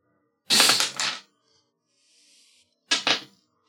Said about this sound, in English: All right, just roll the dice.